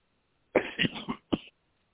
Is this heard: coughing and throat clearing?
yes